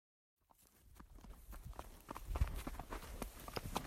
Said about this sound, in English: I'm riding my horse up through the sagebrush out back where I keep her at a friend's place in the valley I live in, which is about 4 hours north and east of Seattle over the mountains.